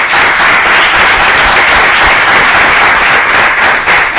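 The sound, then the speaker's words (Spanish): Sustained applause from an audience applauding themselves at the close of an event, a dense, steady wash of many hands clapping at once, loud and even throughout with no speech over it. “Y gracias a todos, y yo diría que vamos a darnos un aplauso, porque nos lo merecemos.”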